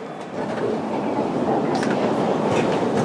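A train heading to Piccadilly Circus rumbles steadily along the rails, a loud continuous roar with faint clattering and brief higher-pitched hisses or squeals, no voices.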